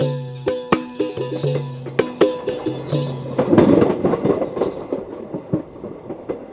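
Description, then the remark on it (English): A train on the ride from Kolkata to an ashram rumbles along with a steady clickety-clack of wheels over rail joints, sharp metallic clicks repeating in an uneven rhythm over a low droning hum and brief louder rattling. “The train ride from Kolkata to Parvati's ashram wakes up all the senses.”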